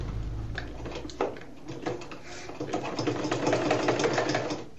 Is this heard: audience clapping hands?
no